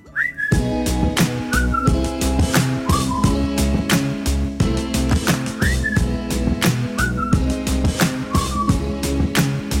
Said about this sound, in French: J'aime bien l'idée d'utiliser le sifflet au début. Ça se perd, j'adore ça. Oui, ça c'est bien un bon petit sifflet sur un morceau. Ça le fait toujours.